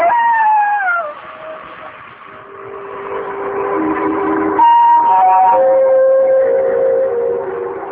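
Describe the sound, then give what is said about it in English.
A jackal howls through the night in long, wavering cries that slide downward and then hold steady, several voices overlapping into a sustained, mournful chorus from a distance with no talking. “I must admit that the howling of the distant jackal even made me nervous.”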